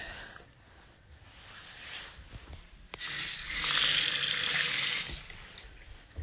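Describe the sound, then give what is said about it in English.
Water pours into a glass with a steady hiss that starts softly, swells louder for about two seconds, then cuts off. No voices are heard. “Here's a drink of water and your pills.”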